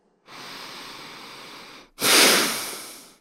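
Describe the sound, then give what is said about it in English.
Two forceful nasal breaths demonstrated in a breathing exercise to clear a blocked nose: a long, steady airy sniff followed after a brief pause by a sharper, louder sniff through flared nostrils that fades out slowly. “If your nose feels blocked, it helps to kind of sniff it out as if you were flaring your nostrils.”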